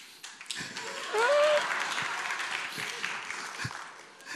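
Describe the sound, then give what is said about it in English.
An audience breaks into steady, dense applause lasting several seconds, with a short rising whistle cutting through early on before the clapping gradually eases. “You don't need to clap.”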